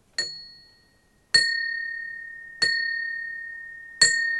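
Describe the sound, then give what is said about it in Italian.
A single death knell bell tolls four times at slow, steady intervals for the death of the Queen in Britain, each clear metallic strike ringing out and lingering before the next; no voices. “Quindi analizzando la venuta di questa donna alla guida della Gran Bretagna, particolarmente tutto lo scocco della campana morto, cioè la campana che suonava.”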